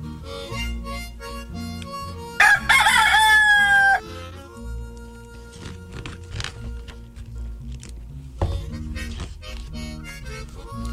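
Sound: rooster crowing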